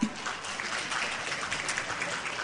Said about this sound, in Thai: ทุกท่านพร้อมนะคะขอเสียงปรบมือดังๆด้วยค่ะ